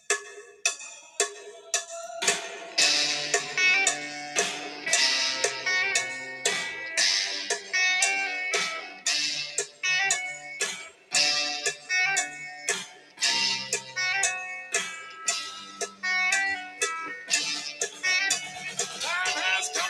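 A 1960s rock song plays, with a steady, sharp cowbell clack marking a brisk beat under bright, sustained guitar and vocal tones, loud and continuous throughout.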